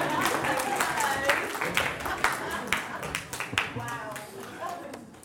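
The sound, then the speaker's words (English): A round of applause from a group, with dense, uneven clapping that runs steadily for several seconds while voices talk over it. “I think a round of applause is due.”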